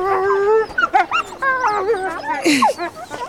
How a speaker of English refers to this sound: Lot of wolves.